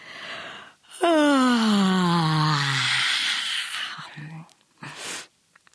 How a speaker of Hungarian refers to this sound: Eloltotta a villanyt, és egy jó ízű ásítással álomra hajtotta a fejét.